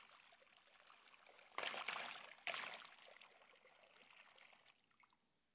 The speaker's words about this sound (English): Because Jesus, he got down, he started pouring the water into the basin.